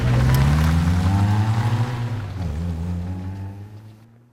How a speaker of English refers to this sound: and then load it onto the flatbed truck of removal. All right, back her up!